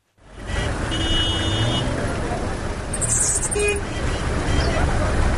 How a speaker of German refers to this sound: Auf den Straßen der ostkongolesischen Stadt Bukavu staut sich der Verkehr, vor allem bei Regen, der die seit Jahrzehnten vernachlässigten Naturstraßen aufweicht.